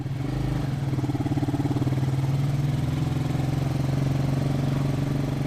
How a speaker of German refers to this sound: winkt ein Motorcar heran, eine Art Motorradrikscha.